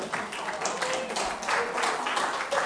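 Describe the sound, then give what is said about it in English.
Steady applause from a crowd fills the whole stretch, a dense wash of many hands clapping at once at a fairly even, moderate loudness. “Congratulations, they're applauding you now.”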